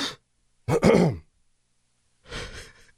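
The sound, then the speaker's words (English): A short, gruff throat clearing from a person, one harsh burst in the middle followed by a softer, raspier rumble, with brief pauses of silence around them. “Was that a disapproving throat clear? No, I just actually had to clear my throat.”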